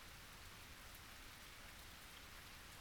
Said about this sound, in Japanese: 虫さんの鳴き声すらない。あるのは、雨の音だけ。雨がザーザー、ザーザー降ってるだけ。